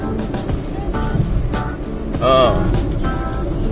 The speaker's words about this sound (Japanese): はい、収集車来ましたね。もう収集車の話になりそうですけれども